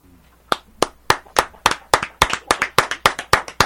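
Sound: clapping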